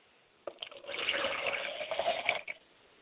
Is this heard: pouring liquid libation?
yes